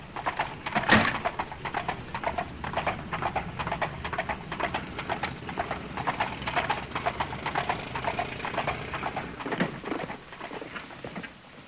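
horse hooves clip-clopping

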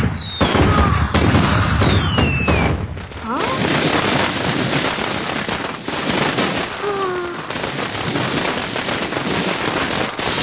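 fireworks exploding

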